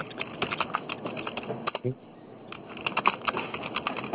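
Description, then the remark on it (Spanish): Rapid clicking of keys on a computer keyboard, an irregular rhythm of taps with a brief pause midway, moderately loud, over a faint background hiss. “Está escribiendo por teclado, ¿eso? Se escucha el...”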